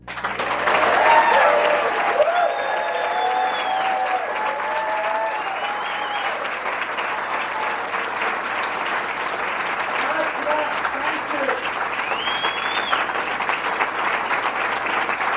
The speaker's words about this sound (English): I would ask all of you to give a rounding cheer and applause.